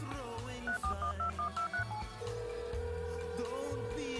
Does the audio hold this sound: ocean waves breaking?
no